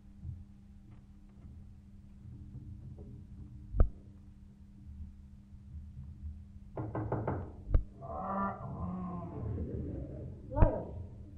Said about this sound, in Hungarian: oda megy az árnyékszékhez, és megzörgeti az ajtaját.